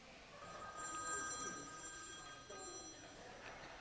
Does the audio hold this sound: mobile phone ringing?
yes